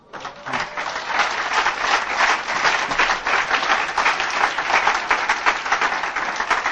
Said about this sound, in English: You know what you're applauding for right there? You are applauding for the 12 traditions.